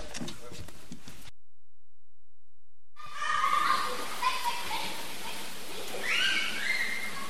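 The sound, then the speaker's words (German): Children's voices echo through the swimming pool hall of the Regenbogenschule in Lofelden during DLRG swimming training, with shouts and chatter filling the space. A short stretch of speech is followed by a pause, then the lively din resumes. “Aber hört doch selbst mal rein in die Schwimmhalle der Regenbogenschule Lofelden.”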